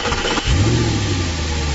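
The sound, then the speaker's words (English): A car engine cranks and catches about halfway through, then settles into a steady idle with a slight rev, heard alone without any talking. “Your car starting and getting you where you need to be.”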